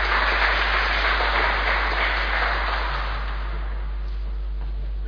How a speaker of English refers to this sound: Thanks, guys. I think you need to sit down, don't you? Give them a clap. Thanks for being such good sports.